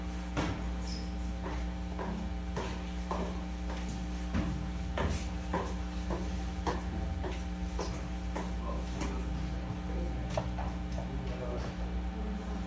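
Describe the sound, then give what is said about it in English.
An ancient key scrapes and clicks repeatedly in an old door lock, a series of sharp, irregular metallic rattles and knocks over a steady low hum, with faint voices in the background. “The key to this door is like an ancient key.”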